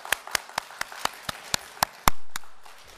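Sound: audience clapping hands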